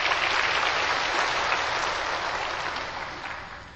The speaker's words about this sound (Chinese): 好，我们现在齁以热烈的掌声恭请青海师父为我们开示。